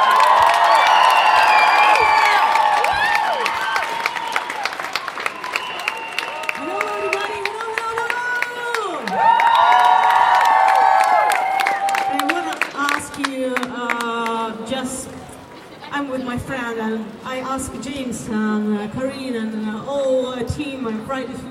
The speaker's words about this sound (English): So, a loud applause